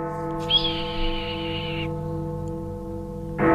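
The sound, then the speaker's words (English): A single long, raspy red-tailed hawk scream rings out clearly for over a second over a steady, low sustained hum, then fades. The hawk perches in spring on the ledge under the big clock at the Arlington Street Church, overlooking the Boston Public Garden. “A red-tailed hawk has been spotted perching on the ledge under the big clock at the Arlington Street Church, which overlooks the western end of the garden.”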